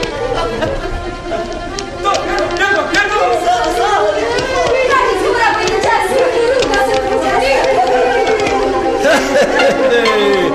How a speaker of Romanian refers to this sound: Ia auziți cum joacă flăcăii și fetele focului. Lăutarii sunt negri ca tăciunii, iar bătrânii, sprijiniți în toiege, stau pe delături și își leagă în pletele de cenuș.